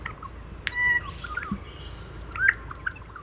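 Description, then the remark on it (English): A male Australian bird sings a short, simple song outdoors to attract a mate and establish territory: sharp bill clicks followed by brief rising whistles, repeated a few times at moderate volume against a soft background hiss. “It has bill snaps involved in it, a clicking sound followed by a sort of upward whistling motion.”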